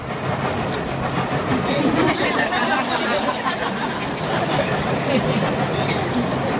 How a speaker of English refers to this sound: The train is coming by. And in the beginning, this might be so disturbing that you cannot sleep.